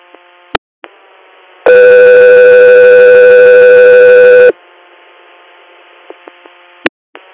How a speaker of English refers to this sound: Got 3 Air, standby for tones.